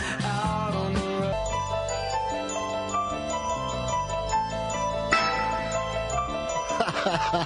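Eerie, repeating bell-like music with a tinkling, looping melody over sustained low tones, steady and fairly loud throughout, in the style of a horror film theme.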